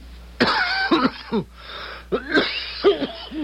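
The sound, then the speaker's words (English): A professor gives a series of harsh, rasping coughs in close succession, loud, with wheezy, strained breaths between the bursts and no talking. “That's a wicked cough”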